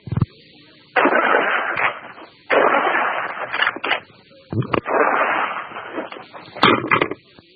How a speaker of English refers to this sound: You can tell that's a pump shotgun, and that is the spirit that went up Iwo Jima Hill.